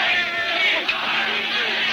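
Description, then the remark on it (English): A dense, agitated crowd yells and shouts over one another amid pushing between troops, marshals and people, with people being hit and things thrown from the crowd, a loud, continuous roar of overlapping raised voices with sharp cries cutting through the din, chaotic throughout. “There was a push and mash between troops, marshals, people being hit, things being thrown from the crowd.”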